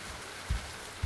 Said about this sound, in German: Da waren wir, auf dem Denali-Campingplatz. Der sintflutartige Regen prasselte nieder und der Himmel war so dunkel, dass es zum ersten Mal, seit wir dort waren, tatsächlich wie Nacht schien.